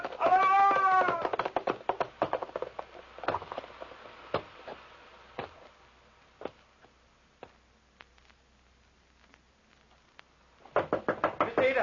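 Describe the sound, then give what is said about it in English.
Sharp knocks on a door, a scattered series of single raps with uneven pauses between them. A high, cat-like wailing cry opens and closes the passage. “Open the door. It's William Seely.”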